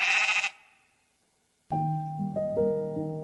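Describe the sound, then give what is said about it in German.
Two sheep bleats: a short, bright, nasal one first, then after a pause of silence a longer, wavering bleat with a rising pitch. Both are clear, with no talking. “Er gibt seine Suche nicht auf, bis er das Schaf gefunden hat. Hört er es irgendwo blöken?”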